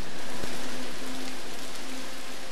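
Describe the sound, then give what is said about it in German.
Dense, steady crackling rustle of 68 large blue plastic garbage bags moving in a kinetic installation, a continuous rain-like hiss with a faint low hum running underneath and one brief click early on. “Zum Beispiel 68, eine Installation gebaut aus großen blauen Mülltüten, die jeder schon mal in der Hand hatte.”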